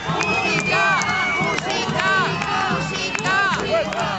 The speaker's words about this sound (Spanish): Lo acaban de escuchar. Aquí en Ávila Capital, el alcalde y la corporación municipal han recibido abucheos y silbidos a la salida de la procesión de San Segundo este mediodía, día del patrón de la ciudad.